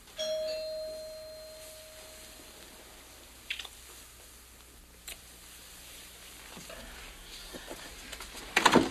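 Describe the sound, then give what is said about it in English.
A doorbell chimes clearly at the start, its tone ringing out and fading over a couple of seconds, followed by quiet room noise, a few soft knocks and rustles. “But I still have to answer the door.”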